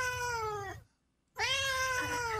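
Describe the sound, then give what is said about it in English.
A cat carried in hand luggage at airport security lets out two long, drawn-out meows, fairly loud, separated by a brief silent pause, with no talking. “He posted on Facebook, "You know that feeling when you get ushered into a side room at airport security because you've got a cat in your hand luggage?"”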